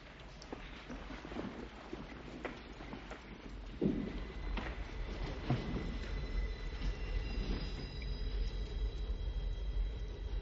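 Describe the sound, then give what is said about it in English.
A train rumbles steadily through a tunnel, with deep low-end roar, rhythmic clanks and a high metallic wheel squeal running throughout, sounding close and enveloping. “Sounds like a train.”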